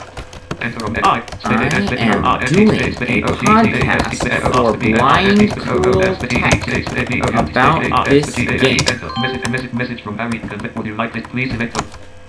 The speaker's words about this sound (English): I can chat this person by hitting F2 and typing in what I want to say. And then I hit enter.